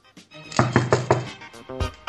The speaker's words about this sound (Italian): Che cosa voleva significare il nostro amico Van Beethoven? Questo suono, pa-pa-pa-pam, per lui era il bussare alla porta.